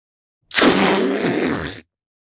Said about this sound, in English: Balloon air release.